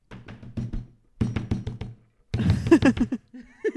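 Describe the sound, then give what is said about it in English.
A voice imitates aggressively shaking a doorknob, making loud, rapid rattling bursts in three quick rhythmic flurries separated by short pauses. “Then she's in the bathroom just going, just aggressively shaking a doorknob, just like.”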